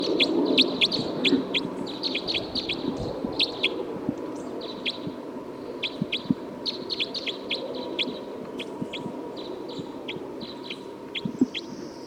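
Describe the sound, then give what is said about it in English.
A bird, recorded as bird 312, calls in quick bursts of high, sharp chirps, repeating irregularly for the whole stretch over a steady low hum and rumbling background noise. “Recording this is bird 312.”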